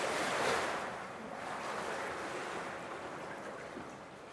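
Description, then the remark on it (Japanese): A broad, roaring rush of water surges in loudly and steadily, churning without letup, with no voices present: the largest of three simulated tsunami waves, a mass of water pushing down a 16-metre tank and rising far above a fixed model house at the waterline. “これ3種類の波が出るようになってるんですが、全部こう順番に見ていきまして、一番大きい津波の様子、これお聞きください。”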